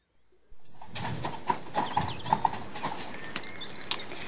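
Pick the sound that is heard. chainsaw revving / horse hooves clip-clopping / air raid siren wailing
horse hooves clip-clopping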